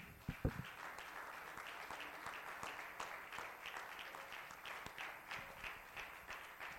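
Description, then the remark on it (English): A crowd gives a hand clap of praise, clapping together in sustained, dense applause, many hands sounding at once in a steady wash with a few sharper claps standing out, with no talking over it. “Can we have got a hand clap of praise?”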